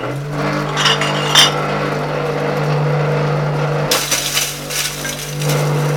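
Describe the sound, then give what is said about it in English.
A glass crusher runs with a steady mechanical hum while glass bottles clink and grind inside as they are crushed to sand for recycling, the crunching growing denser and louder partway through. Continuous, with no voices. “We get rid of plastics altogether off the premises, and we get glass bottles in now, and we have a glass crusher that we crush the glass to sand, and we're able to use it for paths and filling holes and all that”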